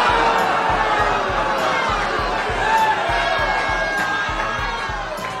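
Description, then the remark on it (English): A crowd of constituents at North Carolina Republican Representative Chuck Edwards' town hall shouts and cheers continuously, many voices overlapping in a dense roar, with a steady low rhythmic thumping underneath throughout. “Tough crowd of constituents in North Carolina.”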